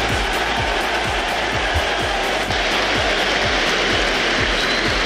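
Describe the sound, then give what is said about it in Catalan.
The Athletic Club crowd at San Mamés stadium roars in a sustained ovation for Nico Williams at the team's La Liga debut, a dense, loud wash of applause and cheering with rhythmic low thumps pulsing underneath, steady throughout with no speech. “Doncs bé, aquesta ovació que sentiu és la de l'afició de Sant Mamés cap a Nico Williams quan, vestit de nou de blanc i vermell”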